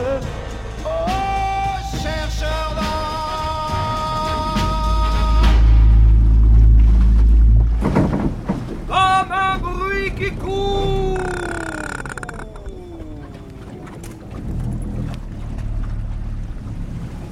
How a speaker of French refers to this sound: qui nous emmène en pirogue sur le fleuve Kourou.